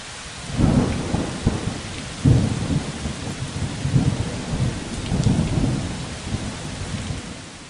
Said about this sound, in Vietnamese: Cơn mưa giông gió này đập ầm ầm vào vách nhà cả đêm.